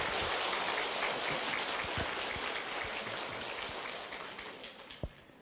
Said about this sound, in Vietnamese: Một lần nữa chúng con thành kính tri ân trên thầy và mong đại chúng chúng ta hoan hỷ cho một tràng pháo tay thật lớn, thật dài ạ.